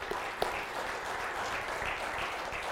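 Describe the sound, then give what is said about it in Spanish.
A church audience applauds during a sermon in praise of Christ, the King of Kings, in a steady, dense wash of many hands clapping, sustained at an even level throughout, with one sharper clap standing out near the start and no voices heard. “Démosle un buen aplauso al Rey de Reyes.”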